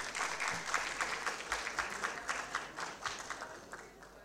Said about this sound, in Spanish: Fuertes los aplausos.